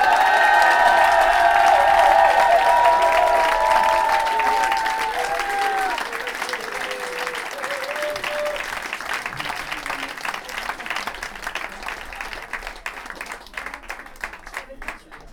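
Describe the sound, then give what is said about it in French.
A crowd applauds the next performer and the whole team, who did the dishes, with loud dense clapping and some cheering voices at first, then the applause thins and continues more softly with scattered claps. “Donc comme ça, ça fait des applaudissements pour toute l'équipe.”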